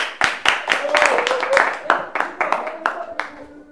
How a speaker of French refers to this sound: On s'applaudit.